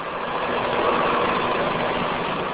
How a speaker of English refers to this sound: green tractor pulls a rotary hoe through young corn plants on his 300-acre farm. Steel blades kick out most of the weeds.